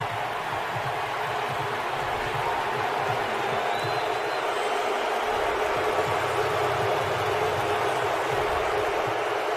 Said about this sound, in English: And everybody in the crowd wasn't just booing. They were screaming boos at Russell Wilson.